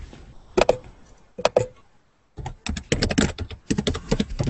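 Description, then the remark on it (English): Rapid, loud clacking of keys on a keyboard, coming in short bursts with a brief pause before a longer run of dense taps, with no voices. “Loud typing.”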